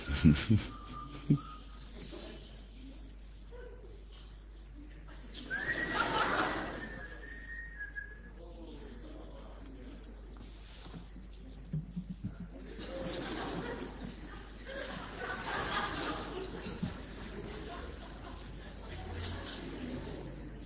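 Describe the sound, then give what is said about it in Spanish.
A bird whistles in short, bright tonal calls, including one sustained whistle partway through, set against a soft noisy background with occasional rustling bursts. “¿O vas a seguir chiflando?”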